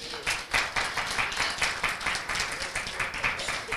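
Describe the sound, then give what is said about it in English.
A church audience claps for God in a steady, rhythmic beat, the sharp bright claps repeating about three times a second, loud and continuous with no talking over them. “Just give him a clap.”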